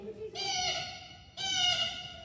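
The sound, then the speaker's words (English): Two harsh, raspy blue jay calls, each lasting about a second with a short gap between them, loud, with no other sounds around them. “That is perfect blue jay.”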